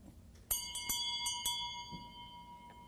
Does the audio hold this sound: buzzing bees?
no